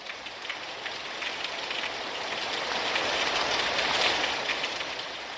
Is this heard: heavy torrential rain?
yes